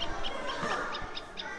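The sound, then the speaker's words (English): A great spotted woodpecker gives a series of short, sharp, high calls, five or so in quick irregular succession, set against a steady hiss of outdoor background noise. “Woodpecker, greater than the spotted woodpecker.”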